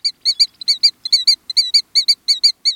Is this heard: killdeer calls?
yes